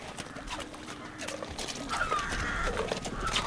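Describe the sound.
Horses on a horse farm where a group of kids from Londonderry ride: a steady patter of hoof clops, with faint bird calls and indistinct background voices in the open-air yard.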